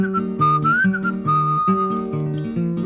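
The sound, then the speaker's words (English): A person whistles a bird call, a wavering, sliding tone that rises and falls over a steady, rhythmic instrumental accompaniment with repeating low plucked notes. No one speaks. “and the cat went meow, and the bird went.”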